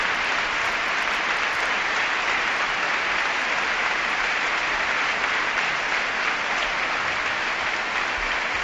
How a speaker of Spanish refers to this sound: Rompe la afición del Valencia Club de Fútbol el minuto de silencio con este aplauso en memoria de Baldo Machado.